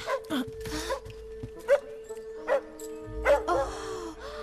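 A small puppy gives several short, high yapping barks spaced irregularly across a few seconds, with a steady electrical hum running underneath and no talking.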